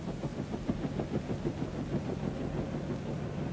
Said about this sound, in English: Must have ordered that helicopter to bring him from the airport.